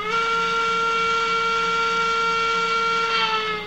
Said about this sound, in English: That's a model freight train rolling past a tiny alpine village Lorraine built.